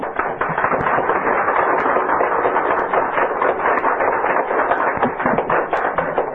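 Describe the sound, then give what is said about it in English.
A Washington, D.C. coffeehouse audience applauding steadily, many hands clapping in a dense, even crackle that holds at the same loudness for several seconds with no voices over it. “That applause, by the way, was made by a Washington, D.C. coffeehouse audience that had started out by booing and hissing.”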